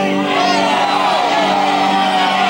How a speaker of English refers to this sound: When I count to four, when we get to four, yell out the name of the person that you hate. Are you ready? One, two, three.